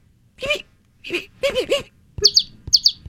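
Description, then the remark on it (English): A voice imitates a baby chick with a series of high, thin peeping chirps, several short bursts with pauses between, growing quicker and sharper toward the end. “Do a baby chick.”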